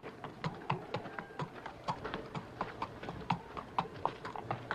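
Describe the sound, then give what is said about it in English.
Steady clip-clop of a horse's hooves on a hard surface, evenly paced sharp knocks at a walking rhythm, moderately loud, with no voices, as a rider enters a quiet town at night. “Silhouetted against the inky sky, Douglas rides into a quiet town.”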